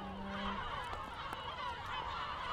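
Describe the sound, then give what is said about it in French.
A dense chorus of gulls calling at a ground-nesting colony among vegetation, with nests tracked by GPS at the start of the breeding season, many harsh overlapping cries at steady loudness, with no talking. “de la mauve sylvestre, et c'est au milieu de cette végétation que vous cherchez les nids des goélands au sol.”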